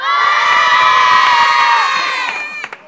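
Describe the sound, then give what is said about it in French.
A big crowd of schoolchildren from the school of Aguesac shouts and cheers together in a school shouting contest, one loud, sustained roar of high voices that holds for a couple of seconds before tapering off. “Si je dis l'école de Aguesac. Faut crier. Alors on crie.”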